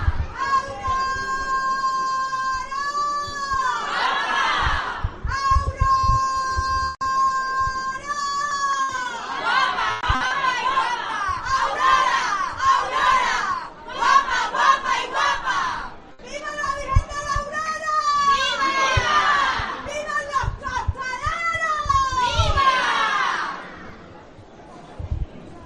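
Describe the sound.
A large crowd at a religious procession shouts and cheers loudly and continuously toward the Virgen de la Aurora as it passes the Grifos de San José, many raised voices overlapping in waves with brief dips between bursts.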